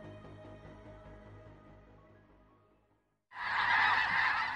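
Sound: geese honking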